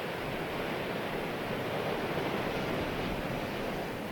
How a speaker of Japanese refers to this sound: 波が打ち寄せ砕け散り、波が打ち寄せまた砕け散り。